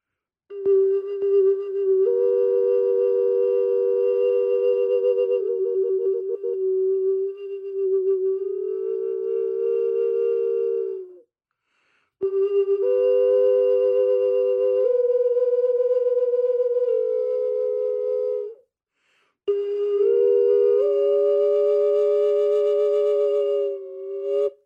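An ancient Mexican wind instrument plays long, steady, pure tones in three loud phrases separated by brief pauses, stepping and sliding between a few mid-pitched notes, with no voices.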